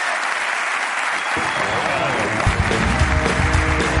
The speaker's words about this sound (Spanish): Así que bien. Un aplauso para